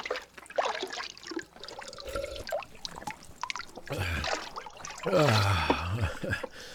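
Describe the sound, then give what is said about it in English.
Water trickles and splashes in uneven spurts, with scattered drips and a louder gurgling pour toward the end; no talking. “I have fetched the water, sir.”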